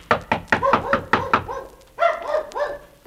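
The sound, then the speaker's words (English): A rapid series of about seven loud knocks on a door, then a dog barking in several sharp, high yelps. “Gee, I didn't mean to knock so loud.”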